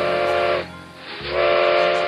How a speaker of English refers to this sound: Hearing the train whistle through the giant redwoods, Tiny Tim decided not to stay here either.